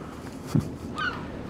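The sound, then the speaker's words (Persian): A small kingfisher perched on a person, flapping its wings, gives a single short, reedy call, preceded by a soft low thump, against a quiet outdoor background with no voices. “مرغ مایه خاره کوچولوی رو تن من که جز تک تخته ای ازم باقی نمونده بود نشسته بود و هی فراشو تکون میداد و هر از گاهی آوازی میخوند.”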